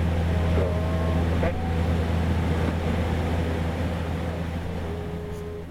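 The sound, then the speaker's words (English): A steady, loud engine drone with a deep, constant low hum from an aircraft's right engine left running while the plane is parked during a quick turnaround, as fueling and unloading take place; the noise stays even throughout, fading slightly at the end. “So they'll start fueling us, and we start unloading, and we'll shut down the left engine, but the right engine will run.”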